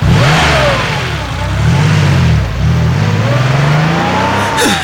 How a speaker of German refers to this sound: Mit diesen Worten drehte er sich um und verschwand mit dem Wagen seines Vaters.